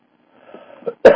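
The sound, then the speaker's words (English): A single sharp cough bursts out loud at the very end, after a brief stretch of faint, breathy throat sounds building up to it. “Made me want to cough here.”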